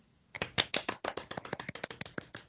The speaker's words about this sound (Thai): ปรบมือ